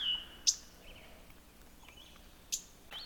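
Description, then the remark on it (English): Sharp, husky chip calls from a mourning warbler, two or three spaced about two seconds apart, against a quiet outdoor background with faint bird sounds and no talking. “This bird that's chipping is actually a mourning warbler.”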